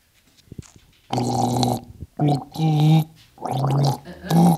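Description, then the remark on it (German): Someone gargles water while humming the tune of a national anthem for a song-guessing game, producing four wobbly, bubbling sung phrases separated by short pauses, with a few faint clicks before the first. “Google euch Songs vor und ihr müsst raten, was das für Songs sind, die ich euch vorgoogle.”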